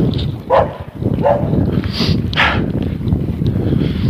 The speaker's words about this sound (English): Dog standing up on the porch, standing guard. It's all the way across the yard. But as soon as I start walking by the fence, he comes running down and runs over the fence and starts barking.